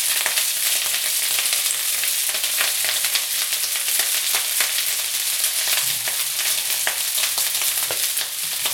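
vegetables frying

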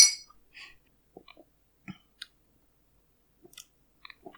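glasses clinking

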